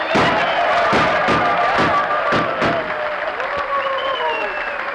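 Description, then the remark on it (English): A crowd bursts into loud, sustained applause with whistles and shouts as a Western reception, punctuated by a series of sharp, booming gunshots in irregular rhythm that fade after the first few seconds. “Well, how's that for an ovation, Jackson?”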